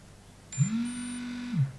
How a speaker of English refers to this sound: Okay, I've just heard beeps and a very solid long vibration to let me know that the unit's now being powered on AC power.